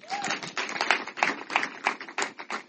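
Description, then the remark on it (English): A person claps their hands in a steady rhythm, about nine sharp, moderately loud claps over a few seconds, with no talking over them. “Please, let me clap for them.”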